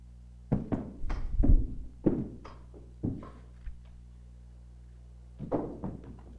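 Stones are dropped one after another, each landing with a dull thunk. The impacts come in an irregular cluster at first, then grow sparse, with a long pause before a final thud.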